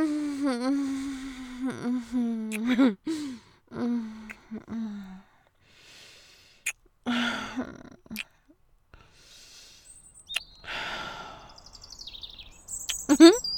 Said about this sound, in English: Oh, little bird. Oh, little bluebird, I hear you. You came back.